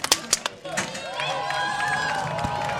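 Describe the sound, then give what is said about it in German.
A few sharp claps open, then a dense crowd of spectators at a race roars continuously, many voices shouting and cheering together for a competitor about to start, in a loud, sustained din. “und das Publikum schreit wie verrückt”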